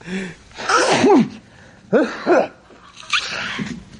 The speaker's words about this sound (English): He sneezed. It's fucking hilarious.